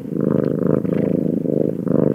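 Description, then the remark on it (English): A cat purrs steadily, a continuous low rumbling vibration with a gentle rhythmic pulse as it breathes in and out, no voices present. “And that is one happy cat.”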